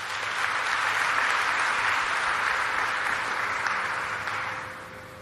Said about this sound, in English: Let us honor Umtwana as a teacher whose impact is being felt today and will be felt forever. Can I ask you again to give him a round of applause?